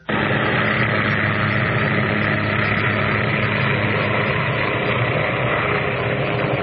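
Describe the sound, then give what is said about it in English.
A helicopter carrying former POW Jessica Lynch lands in West Virginia, its engine and rotors roaring steadily and loudly, a dense continuous drone with a low throbbing churn that holds without letup, no voices. “The helicopter carrying former POW Jessica Lynch has landed in West Virginia more than 4 months after being wounded and taken prisoner in Iraq.”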